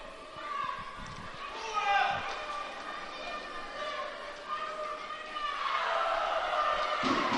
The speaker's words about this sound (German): Der oder das, was man hier gerade gehört hatte, das Geschrei, das kam von dem Duisburger Kreis, Spielerkreis, die das sehr lautstark propagiert haben.